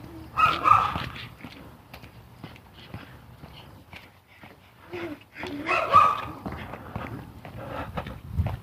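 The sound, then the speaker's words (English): Three small terrier-type dogs (Scotties or Schnauzers), walked by a man along the street with two of them in tandem, give two short bursts of yappy barking several seconds apart, with faint pattering and clicking steps on pavement in between. “Got a guy with three small Scotty dogs. Schnauzers, I don't know.”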